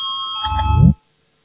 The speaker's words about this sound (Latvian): Lūdzu zvanu, balsosim par trešo varām ministra Pūces priekšlikumu. Lūdzu balsosim.